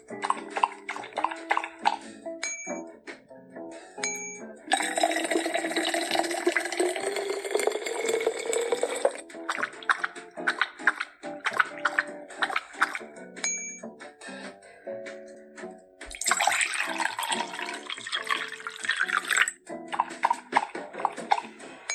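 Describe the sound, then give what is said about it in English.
A virtual dog in a pet game drinking water after being given it, heard as two stretches of splashy, liquid lapping over bright chiming tones and a steady musical background, with no voices. “Double tap on water, and you can hear the dog drinking in a minute.”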